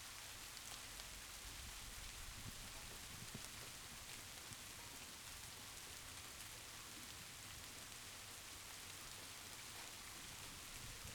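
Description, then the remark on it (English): Steady rain patters on a window and roof, a continuous hiss of countless drops with faint irregular taps, even and unbroken throughout, with no voices. “Rain on my windowpane, rain on my roof.”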